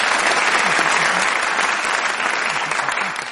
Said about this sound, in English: Ladies and gentlemen, a round of applause for our guest investigators.